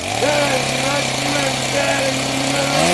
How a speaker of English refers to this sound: What kind of chainsaw you got there?